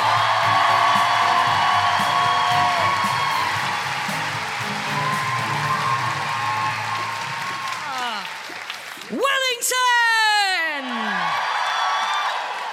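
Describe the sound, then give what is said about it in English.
A crowd at a live show cheers and applauds loudly to welcome a singer, with whoops and shouts rising over sustained clapping; a few high, swooping yells stand out near the end as the noise carries on. “Then keep that cheering going, but make it more like the revolutionary orgy for the incredible ….”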